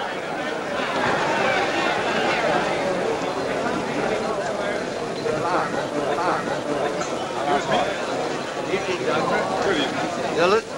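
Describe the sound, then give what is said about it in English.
Steady, dense crowd chatter in the crowded bar of the St. Louis Hotel, with many overlapping voices blending into a continuous murmur that holds at an even, fairly loud level throughout. “Louis Hotel, they enter the crowded bar.”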